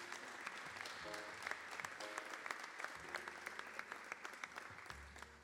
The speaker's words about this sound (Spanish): Y como no, también para recibir en este escenario, que continúe el aplauso para, en este caso, ….